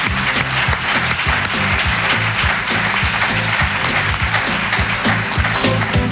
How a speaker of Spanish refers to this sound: Esta señora sí que se merece un aplauso.